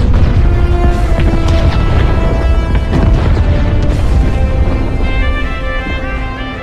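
A bomb, set off by pressing a detonator button, blows up a ski slope area and playground: a loud, deep, continuous rumble lasting several seconds, with ringing tones layered over the roar, tapering off slightly toward the end. No one speaks.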